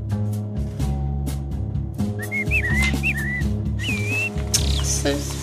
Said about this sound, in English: Just time to hear Bertie the Blackbird.